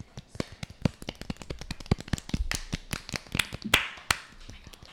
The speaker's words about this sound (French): Bon, en tout cas, on peut les applaudir.